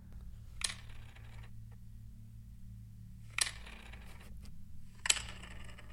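A pencil taps on a table three times at uneven intervals, each a sharp, brief click standing out over a steady low hum, with no voices.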